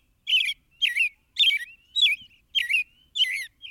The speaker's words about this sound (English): These rich, caroled phrases are among the best loved and most widely heard in North America. This superb song belongs to perhaps our most familiar bird, the American robin. As singers go, the robin is exceptional.